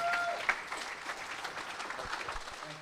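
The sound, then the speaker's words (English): An audience applauds steadily as a preacher comes up to speak, a dense wash of many hands clapping at once, with a brief sharper spike early on and faint murmurs mixed in. “Y'all give him a hand clap as he comes up.”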